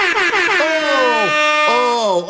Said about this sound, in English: The damn air horns went off. Oh, that must mean it's time to give away a Klay Thompson jersey.